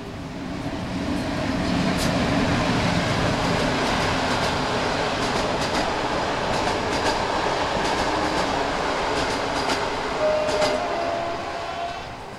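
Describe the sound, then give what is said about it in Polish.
An express passenger train rushes past a boarded-up railway station in Ozorków municipality, a steady loud rumble with rhythmic clicks of wheels over rail joints and a brief high squeal near the end. “O, jedzie pociąg pośpieszny.”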